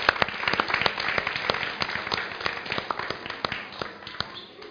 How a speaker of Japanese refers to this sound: And so we send out our young disciples to kids church. で私たちは今この若い弟子たちをキッズチャーシに送りたいと思います。 Let's give our kids a big hand as they go. 子供たちどいてください。そして子供たちに拍手してあげましょう。